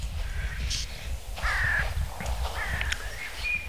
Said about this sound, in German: Alle Vögel sind natürlich schon wach, logisch. Und hellauf begeistert.